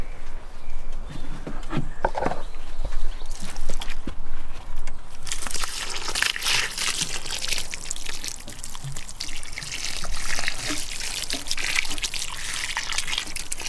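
Water pours steadily onto plants in a garden, a continuous broad splashing and trickling that swells louder partway through, with soft drips and light rustling and no voices.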